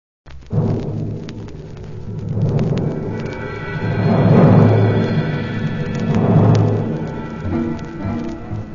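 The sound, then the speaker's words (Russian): Deep, rolling thunder rumbles on its own, swelling loudly in several heavy waves with crackling bangs, over a steady rain-like hiss and no voices. “Поднялся стук, да гром, весь дворец затрясся.”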